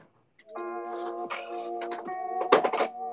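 Small ceramic dishes clink and rattle repeatedly with ringing tones, as if being shifted around in a cupboard, while someone searches for a small plate to bring, continuous for a few seconds with no talking.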